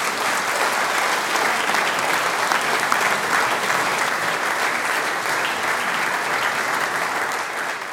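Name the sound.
audience applause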